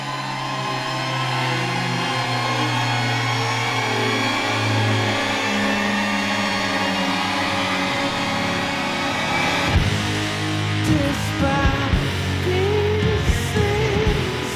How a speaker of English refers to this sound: that there was some song about a car crash, and then you hear it, like, at the 6-minute mark in the song, you're like, whoa, they just created the sound of, like, what a car crash sounds like musically. Yeah. Which I thought was really, really cool.